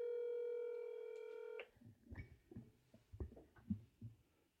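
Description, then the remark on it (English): A steady electronic phone tone rings out clearly for about a second and a half as someone places a phone call, then cuts off into a series of soft, muffled thumps and handling noises, with no voices. “Calling my mommy.”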